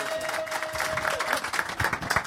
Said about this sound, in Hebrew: ואתם, תנו כפיים למשה ליאון, חבר'ה. תנו כפיים פה.